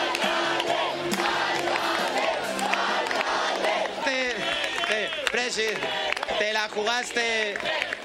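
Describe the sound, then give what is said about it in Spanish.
A large crowd cheers and chants loudly and continuously, shouting "alcalde" (mayor) for José Luis Martínez Almeida, many voices blending into a dense roar, with rhythmic, pitched shouts rising and falling more clearly in the second half. “Al grito de alcalde José Luis Martínez Almeida, emocionado y también agradecido.”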